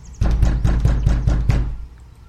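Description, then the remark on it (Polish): Someone knocks on a door, about seven firm, evenly spaced raps in quick succession, fairly loud, with a dull wooden thud and no voices. “Zapukał do drzwi.”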